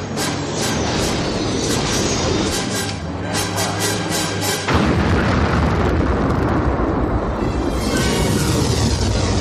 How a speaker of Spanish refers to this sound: Pues el responsable de esa explosión en pantalla que ha pasado a la historia del cine fue John Baker, un hacedor de imposibles en los tiempos en los que la magia no era cosa de efectos digitales, sino de efectos mecánicos.